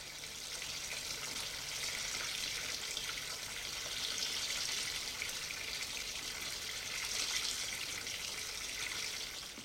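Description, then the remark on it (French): A shower runs steadily in a home for young offenders while small children aged 4 to 6 are washed, a continuous hissing spray of water that holds even throughout, fairly loud, with no voices heard. “En attendant, il le met dans un foyer pour délinquants, dont dortoir, douche, où il aide une femme de service à laver des petits de 4 à 6 ans.”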